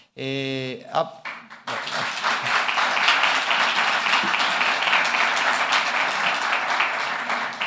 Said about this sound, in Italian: Grazie anche per l'applauso.